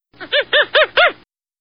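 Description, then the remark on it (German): A baboon gives a quick run of five harsh, rising-and-falling barking calls, the first softer and the rest loud, with no voices around. “Pavianaffen.”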